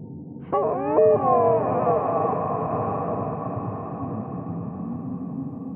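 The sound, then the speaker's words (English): An eerie, otherworldly moan swells up in a few quick wavering cries, then stretches into a long, droning wail that lingers at a steady, moderate loudness. “It's like an eerie mixture of a deer moaning in pain and a pregnant woman in the throes of the birthing process.”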